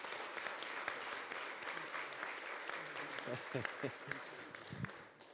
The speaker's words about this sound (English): Let's give him a round of applause and a thank you.